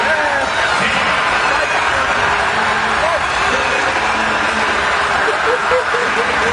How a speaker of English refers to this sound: Yes. On the ice at a Hershey Bears game. You know how, like, in the intermission, yeah, they let it, the kids come out? Yeah, they call it Mites on Ice. Mites on Ice. Right. I'm just going to play the audio here and just listen to the fans cheering.